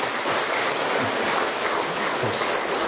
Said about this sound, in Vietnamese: Vâng, xin những người hỗ trợ những anh chị em chúng tôi ở đây, nhóm dân tộc thiểu số này, bằng một tràng vỗ tay đấy.